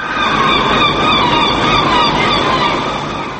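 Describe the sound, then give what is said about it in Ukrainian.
Seagulls cry over and over in Oslo, Norway, during a minute of silence at noon for victims of a mass shooting, in shrill, overlapping calls above a steady wash of background noise, with no voices, the whole scene holding constant before easing slightly at the end. “В Осло було чути лише крики морських чайок.”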